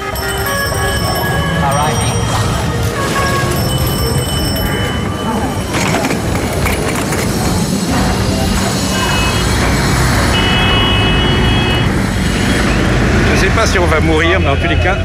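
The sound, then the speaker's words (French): Dense, steady street traffic fills Place Unilever, a large city square in Dakar: engines rumble constantly, horns and bell-like tones ring out at intervals, and voices chatter throughout the loud, unbroken din. “Ici, à Dakar, au milieu de cette immense place que nous traversons, il y a un monument à la multinationale Unilever.”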